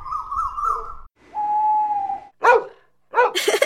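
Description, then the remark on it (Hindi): A female voice imitates a dog barking, giving two short, loud barks, after a run of sustained tonal calls imitating a cuckoo and an owl, as practice for a Teachers' Day play of animal and bird sounds. “मैं कोयल, उल्लू और कुत्ते की आवाज निकाल सकती हूँ, ये सुनो।”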